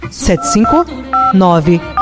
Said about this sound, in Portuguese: Olha o telefone que toca, é o povo que liga.